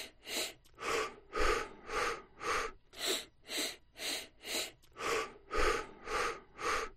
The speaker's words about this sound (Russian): Затем 4 выдоха подряд через рот.